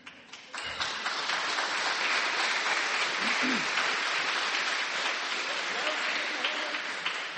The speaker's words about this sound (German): Der Applaus geht nach oben.